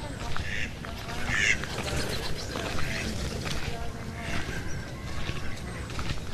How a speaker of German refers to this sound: betrete ich jetzt das Geflügelgehege. Um mal mir von näherer Warte anzuschauen, wohin das Geschrei herkam.